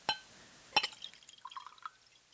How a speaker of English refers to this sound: Now, I still have a little bit in this glass here, so I'm going to pour some for myself right now.